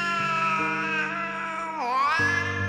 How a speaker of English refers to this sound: His greatest hits? Mewling, yowling, meowing, and the occasional deep rumbling purr were all trotted out. The worst, however, was the crying.